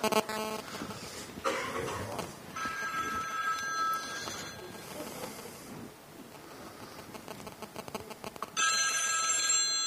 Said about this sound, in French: Allez, arrête-toi. C'est bien mon téléphone. Hein.